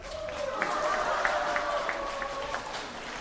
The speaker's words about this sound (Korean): 뜨거운 박수 한번 해주시기 바랍니다.